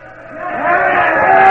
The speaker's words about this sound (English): Now that cheering you hear is the way people cheered the day Franklin Delano Roosevelt came to town from visiting Muscle Shoals. It was January 33. He wasn't president yet, just president-elect.